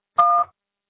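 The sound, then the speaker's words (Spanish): A single telephone keypad tone on a voicemail system: a steady dual-pitched electronic beep lasting about a third of a second, sounding alone and fairly loud, followed by silence. “Marque la tecla gato cuando termine.”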